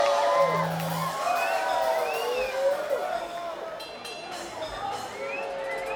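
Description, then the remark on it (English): A large concert audience at a music hall in Pensacola, Florida cheers and whoops continuously for the band's crew, with scattered shouts and a steady wash of clapping at a loud, even level throughout. “All right, the crew wants another round of applause, obviously.”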